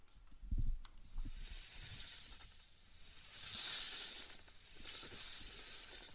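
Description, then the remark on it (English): A drawn-out, breathy snake hiss swells and fades in waves over several seconds, loud, with a low thump near the start and no talking. “It is time for the snake.”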